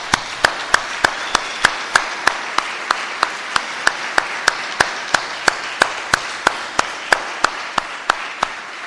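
An audience applauds with a steady, rhythmic beat of sharp unison claps riding over a continuous wash of scattered clapping. It goes on for several seconds with no one speaking.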